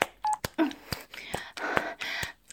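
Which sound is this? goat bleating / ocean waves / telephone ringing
telephone ringing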